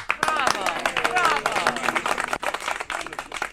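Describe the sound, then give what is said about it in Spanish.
A burst of hand clapping and applause to welcome a guest on a radio show, sharp dense claps over a few seconds, mixed with cheerful voices and speech talking over it. “Con aplausos lo recibimos.”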